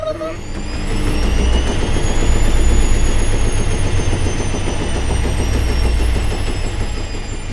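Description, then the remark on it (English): A tumble dryer runs with a steady, continuous low rumble and whirring drone, a faint high whine riding above it, holding at an even loudness throughout. “Time for Ben now plays the tumble dryer.”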